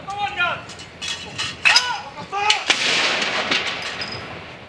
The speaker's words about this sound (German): 96 Salutschüsse, einer für jedes Lebensjahr Elisabeths, werden abgefeuert.